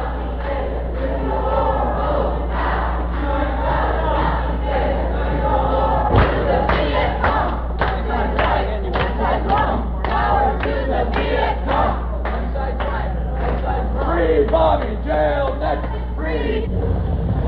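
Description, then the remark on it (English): A crowd of about 20 protesters marching into a bus depot, chanting and shouting together in a steady, rhythmic cadence, with occasional thuds and a low constant rumble underneath, loud throughout. “Apparently they're going to go inside and march around the bus depot.”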